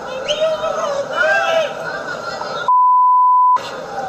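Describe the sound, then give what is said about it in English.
At a tennis match, a woman's voice yelling for help rises over background chatter, then a loud, steady, high-pitched censor bleep covering an F-word cuts in for nearly a second, fully replacing the sound before the noisy voices return. “That was the F-bomb, by the way.”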